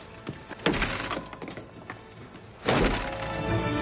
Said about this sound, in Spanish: Procedemos a derribar la puerta. Si hay alguien detrás, que se retire. Va.